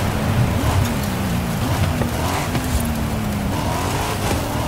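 A video game car engine drones steadily and loudly as the player holds down the accelerator, its pitch climbing slightly as it accelerates, with a constant rushing hiss underneath and no voices.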